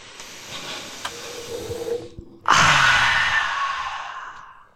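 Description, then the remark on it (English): A long sniff of a freshly opened Pokemon card pack followed, after a brief pause, by a louder, breathy rush of air, like someone deeply inhaling a scent and then sighing it out. No one speaks. “First, the sniff.”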